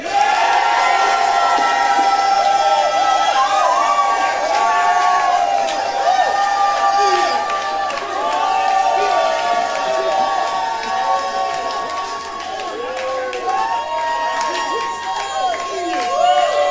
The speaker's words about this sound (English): So, I'll count to three, and then just cheer and yell and praise God as we see the enemy routed. Are you ready? One, two, three.